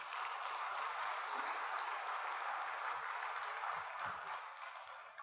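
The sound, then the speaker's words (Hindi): A large crowd seated in a hall applauds loudly and steadily for themselves in joy, a dense wash of many hands clapping at once that holds for about five seconds before easing slightly at the end. “और खुशी से अपने लिए जोरदार ताली बजाएं।”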